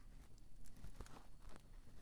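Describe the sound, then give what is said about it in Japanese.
A few soft, muffled footsteps of a wolf walking on a house roof thud overhead at an uneven pace, faint and set against a low background hum. “屋根から足音がするからさ。”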